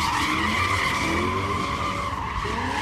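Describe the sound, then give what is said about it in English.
Car tires squeal loudly and continuously as a vehicle spins donuts on the pavement of Harbor Road at the Port of Oakland during a sideshow in front of a crowd, the shrill screech wavering in pitch over a low engine rumble, with no pauses and no talking. “They left the telltale tracks all over the pavement as they spun donuts in front of a crowd.”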